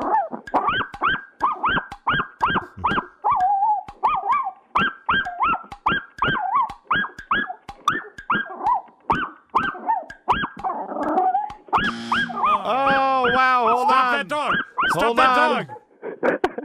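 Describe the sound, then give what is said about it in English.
A Chihuahua named Stardust yaps rapidly and repeatedly in sharp, high-pitched, loud bursts, then breaks into a long, wavering whine and whimper near the end. “What kind of dog was that again? It's a Chihuahua.”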